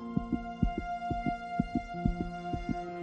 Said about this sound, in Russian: он почувствовал, как колотится его собственное сердце и пульсирует в жилах кровь.